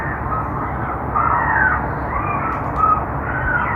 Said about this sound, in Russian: Так, сразу после запуска системы отпугивания птиц, установленной нами на кровле стадиона «Газпром-Арена» в Санкт-Петербурге, сотнями начали поступать жалобы жильцов жилого массива, расположенного в 1,5 километрах, на другом берегу реки Невы.